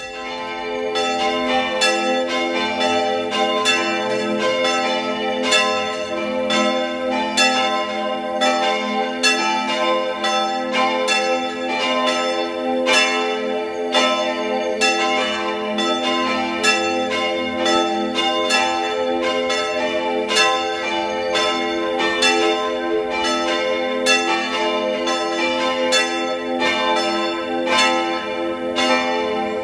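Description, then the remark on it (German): At 12 noon, the church bells of the Dreiheiligenkirche, a Baroque parish church in Innsbruck, Tyrol, peal continuously and loudly, several bells overlapping in a dense, ringing wash of strikes with long sustained overtones, no voices present. “Sie hören die Glocken der Dreiheiligenkirche in Innsbruck, Tirol.”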